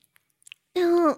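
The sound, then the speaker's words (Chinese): A few faint, wet mouth clicks, then a short voiced chomp-like syllable, a voice imitating biting a foot and licking toes rather than real chewing. “竟然一口咬上来！”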